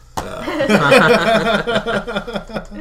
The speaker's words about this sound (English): And we are back. Sorry to clear my throat.